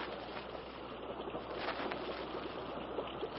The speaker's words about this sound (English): Sounds like a waterfall somewhere ahead.